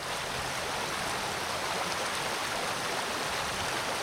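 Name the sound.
rushing creek water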